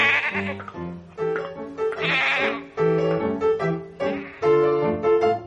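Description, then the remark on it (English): A Nubian goat bleats loudly again and again, its wavering, nasal calls following one another in a rough rhythm with short breaks between them, with no voices over it. “It's a Nubian goat.”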